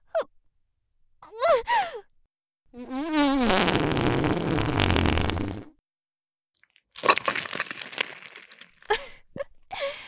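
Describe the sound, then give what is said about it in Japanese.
A long, loud, wavering fart blasts close up for nearly three seconds, preceded by a short breathy gasp and followed by crackling, squishy noises. “さあ、くっさいおならぶちまけちゃうわよ。”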